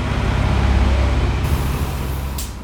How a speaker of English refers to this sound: After boarding a bus ready to depart from the main City Utilities bus terminal just west of Park Central Square